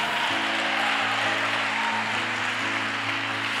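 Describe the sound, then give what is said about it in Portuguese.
An audience at a church service claps steadily and densely throughout in praise of God, a continuous wash of applause, while sustained keyboard chords hold and shift underneath. “Dá uma salva de palmas a Ele.”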